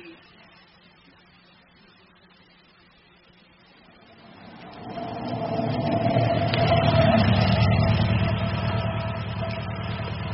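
A car engine idles with a low, steady hum, then revs up about halfway through, growing into a loud, sustained rumble that lasts until the end.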